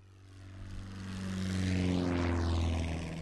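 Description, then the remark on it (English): A small two-seat propeller airplane drones overhead, its engine hum steady and rising in loudness as it passes, with no voices present. “Wherever she is today, Evelyn Johnson is probably sitting in the right seat of a two-seat airplane.”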